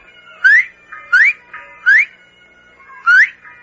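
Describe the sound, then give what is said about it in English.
Four short, clear whistles are given as a signal, each sweeping upward in pitch. They are loud, with brief pauses between them and a longer gap before the last. No one talks. “Whistle 3 times. Then watch. Like this.”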